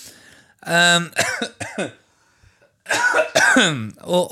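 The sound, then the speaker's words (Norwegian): A loud bout of coughing: a cluster of three harsh, throaty coughs, a brief pause, then another run of coughs, with no speech in between. “vi skulle ha sånn cough button her når vi spiller inn.”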